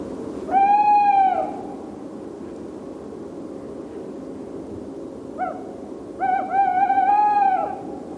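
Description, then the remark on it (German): A tawny owl hoots twice, long wavering calls several seconds apart with a brief note between them, rising clearly over a steady hiss of background noise. “Das war die Aufnahme von einem Waldkauz, der häufigsten Eulenart Österreichs.”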